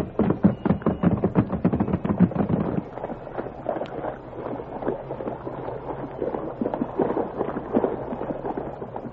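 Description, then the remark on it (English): Rapid, heavy hoofbeats of three horses pound, then give way to a continuous churning rush of water as they plunge into a swirling river while the current drags at them. “Three horses plunged into the swirling waters while the current fought to drag them under.”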